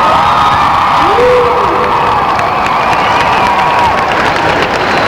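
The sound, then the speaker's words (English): A concert audience applauds and cheers loudly and steadily as a band member on keyboard, accordion, percussion and vocals is introduced, with whoops and shouts rising above dense clapping throughout. “Ooh, she may win the applause contest tonight.”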